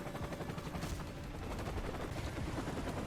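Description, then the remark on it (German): A scripted helicopter in the video game Call of Duty flies past, its rotor beating in a fast, steady chop that fills the whole stretch with loud, dense noise and no voices. “Es war einfach so random scripted Call of Duty Heli. Der ist da lang geflogen, hat aber nichts weiter gemacht.”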